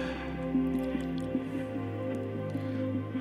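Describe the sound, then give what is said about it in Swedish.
Water is poured steadily into a glass, a continuous trickle and splash with a ringing, hollow tone that lasts a few seconds, with no voices. “Och lite vatten till det tänkte jag skulle slå till med.”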